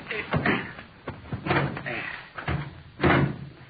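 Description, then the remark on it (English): A car door is opened and shut, a series of solid clunks and thumps spread over a few seconds, ending with a firm slam. “Well, somebody open the door.”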